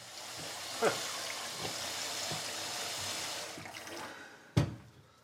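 water running

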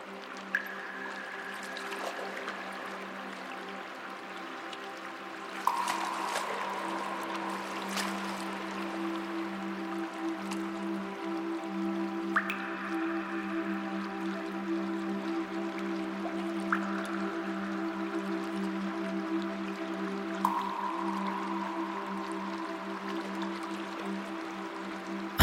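water dripping

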